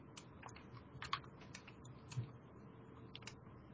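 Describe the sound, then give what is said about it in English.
Quiet, irregular clacking of computer keys and clicks of a mouse while playing a computer game, a few sharper taps standing out, with a low steady hum underneath and no one talking. “All right, let's see if I do better with a mouse and keyboard.”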